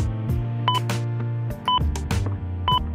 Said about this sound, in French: Mardi, 17 novembre 2009. Au quatrième top, il sera 10h02.